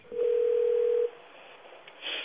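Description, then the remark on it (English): A single steady telephone ringback tone hums for about a second over a thin, hissy phone line on an outgoing call to the 211 assistance line, then cuts off, leaving faint line noise and a brief scratchy sound. “Okay, I think it's ringing.”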